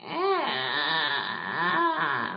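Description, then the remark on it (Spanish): A voice imitates a creaking door as a voice exercise, with a strained, rasping vocal creak that slides up and down in pitch in two or three long swells, sustained and fairly loud with no words. “Que no lo vamos a utilizarlos siempre, pero sería, pues, por ejemplo, un sonido que va muy bien es el sonido de una puerta chirriante, como.”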